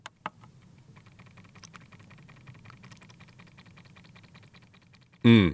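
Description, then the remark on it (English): The small electric pump of a window cleaner taps quietly and rapidly, pumping water and cleaning solution into the cloth, over a low hum after a couple of sharp button clicks; a voice cuts in loudly at the very end. “Can you hear A little tap-tap. What that is a pump. It's pumping the water into the cloth here, right?”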